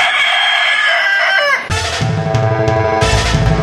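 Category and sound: bird, rooster crowing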